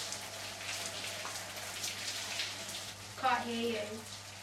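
A shower runs steadily, a close, continuous hiss of spraying water, with a short, muffled voice-like tone rising briefly above the spray near the end.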